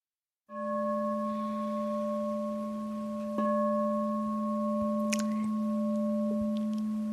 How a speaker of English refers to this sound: So those bells mark the beginning of being able to converse with one another.